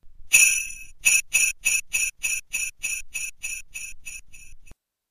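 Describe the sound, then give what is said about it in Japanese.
A talking pen's volume adjustment tone, played when the rear side of its seesaw volume switch is pressed to lower the volume: a longer electronic beep followed by about a dozen short, evenly spaced high-pitched beeps that gradually grow quieter, with no talking. “反対にペン後部側を押しますと音量調節音。”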